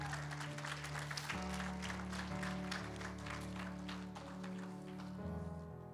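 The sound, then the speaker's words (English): An audience claps steadily for several seconds, giving God a hand clap, a dense patter of many hands, while sustained low musical tones hold underneath, shifting pitch a couple of times. “Give Him a hand clap.”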